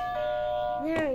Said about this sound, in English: You want to hit the buzzer?